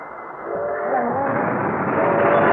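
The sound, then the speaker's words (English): A train approaching a railroad crossing in the countryside rumbles steadily, its broad roar swelling over a couple of seconds, with faint sustained whistle-like tones riding on top of the dense mechanical noise. “Is that the train? Yeah, it's just at the crossing.”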